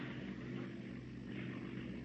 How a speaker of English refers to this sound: It's a car. That's what it is. A car all the way up here.